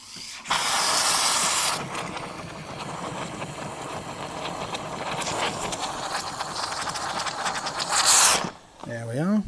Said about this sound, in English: And then right at the end, when we've got enough in there, we're just going to turn it to the steam and just finishing it off with a little bit of steam at the end just to really froth it up.